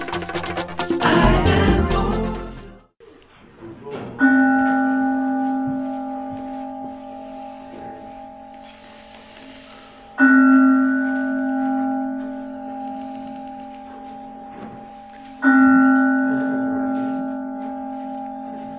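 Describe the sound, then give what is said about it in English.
A meditation bell is struck three times during a Sunday Celebration service at the Center for Spiritual Living in Huntsville, Alabama, about six seconds apart, each strike ringing out with a long, steady, shimmering tone that slowly fades. A short burst of rustling noise comes before the first strike. “So with the sound of the bell, the invitation is to be still.”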